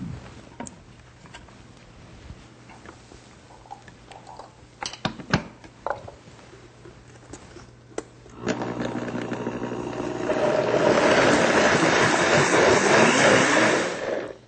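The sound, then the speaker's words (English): A few scattered clicks and clunks over a low hum, then a blender blending a drink of whole fruit, orange juice and soy milk whirs to life and climbs into a loud, steady grinding roar that runs to the end. “So let's blend it up.”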